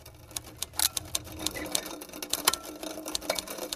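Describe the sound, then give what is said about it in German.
Rapid mechanical clacking and tapping, irregular keystroke-like strikes over a steady whirring rattle, from old devices such as typewriters, coffee grinders, slide projectors and cameras played in a loop, with no voices. “Lehnen wir uns also an dem ganzen Wahnsinn mal kurz zurück und hören in Schleife alte Schreibmaschinen, Kaffeemühlen, Diaprojektoren, Fotoapparate.”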